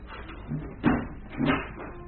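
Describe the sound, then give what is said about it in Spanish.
A door being shut: two dull, wooden knocks about half a second apart, the second slightly longer, at moderate loudness with no voices over them. “La mujer desapareció tras la puerta.”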